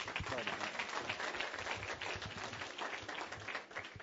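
Audience applause: many hands clapping in a dense, steady wash of sharp crackling hits that holds at a fairly even loudness for about four seconds, tapering slightly at the end.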